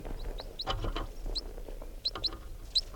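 A wild male bird flying low gives a run of short, high chirping call notes, about eight in loose clusters, over low rumbling background noise; no one speaks.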